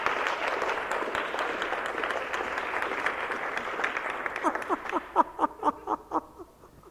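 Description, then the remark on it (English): An audience applauds in a dense, steady wash of clapping that thins out toward the end into a few louder, rhythmic individual claps before fading away. “Go ahead, give him a clap there.”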